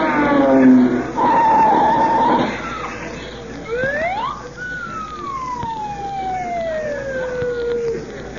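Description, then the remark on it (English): Loud, dense street traffic on Sunset Boulevard with a burst of screeching, squealing tires up front, then long descending squeals gliding over a steady roar of passing cars. “Now, be careful, the traffic's mighty heavy.”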